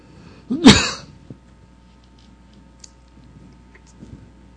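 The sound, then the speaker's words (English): A single loud, harsh cough or throat-clearing burst near the start, followed by near silence with a few faint ticks in the background. “Anybody got a cough drop?”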